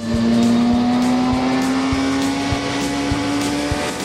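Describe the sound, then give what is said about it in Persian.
A 2013 Kawasaki Ninja ZX6R sport motorcycle with a 636 cc engine drones loudly, its pitch climbing gradually as it accelerates, with faint rhythmic ticks beneath the steady whine and no voices. “از اون موقع تا به حال جریان مداوم ارائه این سلاح‌های کورسی خیابان پیما ادامه داره و این کاواساکی نینجای ZX6R آخرینشونه.”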